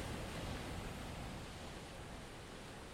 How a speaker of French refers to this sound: Il entendait gronder la mer contre les rochers. Les vagues se brisaient, effrayantes, sur la côte.